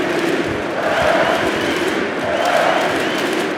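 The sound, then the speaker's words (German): A huge crowd of 14,000 spectators in Berlin roars and chants together at the end of a basketball game, a loud, dense wall of voices rising in rhythmic swells as an 'MVP' chant for Franz Wagner carries on without a break. “14.000 Zuschauer feierten Franz Wagner in Berlin am Spielende mit MVP-Rufen.”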